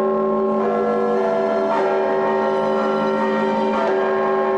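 The largest church bell in Penza tolls slowly on a quiet morning, calling townspeople to the church, struck about every two seconds, each strike blooming into a deep, sustained ringing hum that never fully fades between blows. No voices.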